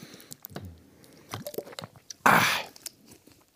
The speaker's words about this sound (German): Und muss ich mal einen Schluck Wasser trinken.